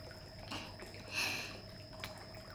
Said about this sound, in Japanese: それじゃあシャワーで頭濡らすね。お湯の調節いつもと違うからさ、熱いとかぬるいとかあったら言ってね。